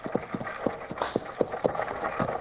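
Stagecoach horses' hooves clip-clop in a quick, steady rhythm, several sharp knocks close together over a rumbling, noisy background, like a team pulling the stagecoach at a trot.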